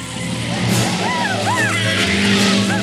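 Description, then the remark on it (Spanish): A small battery-powered toy car hums steadily and continuously as it drives among electric trains, robots and other mechanical toys, with rising and falling squeaky whines layered over the drone throughout. “En otra zona, Gizmo conduce un coche a pilas avanzando entre trenes eléctricos, robots y otros juguetes mecánicos.”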